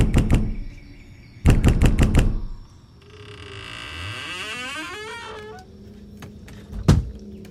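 A girl knocks at the door of a big house at night: a quick run of five loud, sharp knocks, followed by a long, wavering creak and a single dull thump near the end, with no voices.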